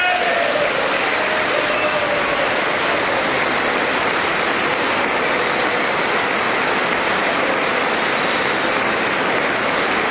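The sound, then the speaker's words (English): A large audience applauds steadily for about ten seconds, a dense, even wash of many hands clapping with no speech over it. “No Democrats are clapping.”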